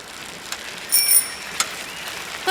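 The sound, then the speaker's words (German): Bicycles ride up in Bollenstreek, Holland, with a steady whirring hiss and a few sharp clicks, and a high, bright bicycle bell rings out briefly. No one speaks. “Ich habe mir schon gedacht, dass ihr es seid, die da angeradelt kommen.”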